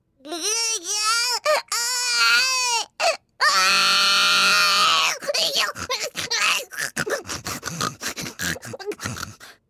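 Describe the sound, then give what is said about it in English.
A voice imitates a baby crying: wavering, rising wails, then a long sustained cry, followed by a run of short, choppy grunts and sobs, all fairly loud with no other talk. “when it grunted again, so violently that she looked down into its face in some alarm.”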